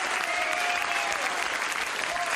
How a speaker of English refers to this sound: Applause. I'm going to have to edit that in.